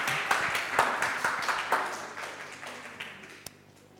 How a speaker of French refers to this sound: Donc, bravo pour cette première réponse. Alors, attention. On continue. On peut applaudir.